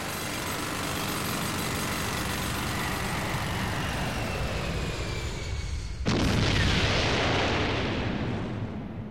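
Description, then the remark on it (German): A deep, continuous roar rumbles for several seconds, then a sudden loud blast bursts out and gives way to a broad, hissing rush, like a volcano erupting with an explosion. “Und dadurch, dass das dauerhaft in unregelmäßigen Abständen eruptiert, weiß man, der Schlot ist frei, da ist nichts verstopft”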